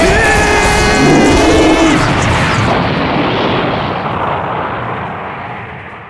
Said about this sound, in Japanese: なんだろう今の音。 音？ 何か爆発したみたいな音だよ。ヒーローの必殺技みたいな。